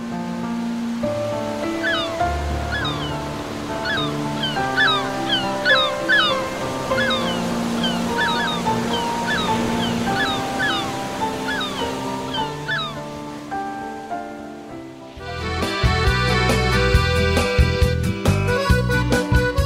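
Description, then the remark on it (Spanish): Ocean waves wash steadily beneath layered music for about fifteen seconds, then a brighter rhythmic music passage takes over and the surf fades behind it. No one speaks. “Con el sonido de las olas, por un momento, se siente en paz.”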